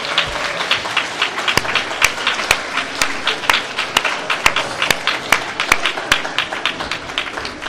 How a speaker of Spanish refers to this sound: ¿Qué os parece si le damos un aplauso por lo bien que nos lo ha contado, por sus años?